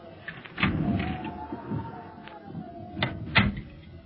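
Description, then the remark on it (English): A door creaks slowly open with a long, drawn-out squeal, punctuated by a few sharp clicks and knocks from the latch and frame, moderately loud. “Here's another door.”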